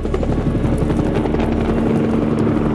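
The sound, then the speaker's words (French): A helicopter roars loudly overhead as it makes a pass and then comes back, its rotor producing a steady, dense thumping drone that fills the whole short stretch without pause. “L'hélico fait un passage, mais à la surprise générale, il revient.”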